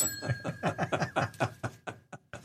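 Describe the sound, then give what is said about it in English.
A bell, called the friendship bell, rings with steady, sustained high tones that hang through the whole moment, while quick rhythmic bursts like snickering laughter pulse over it before trailing off. “This is called the friendship bell because it keeps him from shooting me.”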